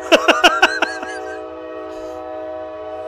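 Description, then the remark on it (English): A loud passing train's horn blasts five quick honks in a row, then holds a long tone that lingers and fades into a steady low rumble. No one is speaking. “once we get past the horn honking, we're fine. It is fucking loud.”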